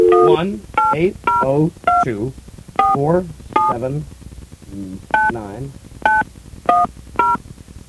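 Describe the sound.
Telephone keypad tones beep about ten times at uneven intervals, loud, each short dual-pitched press punching through a man's voice talking between and over them, as he dials a long-distance number to Vermont on a pay phone in a phone booth on South Main Street.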